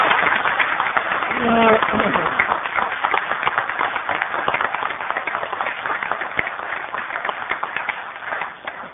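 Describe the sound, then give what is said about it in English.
A group in Henrico County claps in a steady, dense round of applause for a retiring Sheriff's Office major, lasting several seconds, with a short voiced call briefly rising over the clapping near the start before the sound tapers slightly at the end. “We would like to acknowledge that and give him a round of applause for a job well done.”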